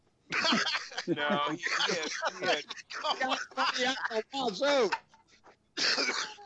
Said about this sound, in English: Man, I'm choking. You're making me laugh so hard I'm coughing.